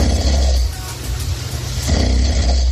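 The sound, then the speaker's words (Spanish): Loud, rough snoring in the early morning hours, a deep rattling rumble that carries on for a couple of seconds, then breaks and starts again with a fresh snore. “Y el premio Amapola concluyó de madrugada con estos ronquidos.”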